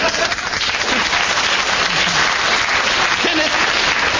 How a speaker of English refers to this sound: But as the audience have clapped you, and obviously wish you to continue with the subject